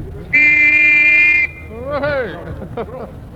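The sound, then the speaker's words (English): A single loud, steady official whistle blast, blown by the adjudicator from the Paris Travel Service to start a camper van race, shrill and unwavering, lasting about a second before cutting off, followed by voices talking over a low background rumble. “And after that whistle, we'll probably have the police round here too, I should think.”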